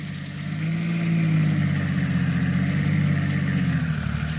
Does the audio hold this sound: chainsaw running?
no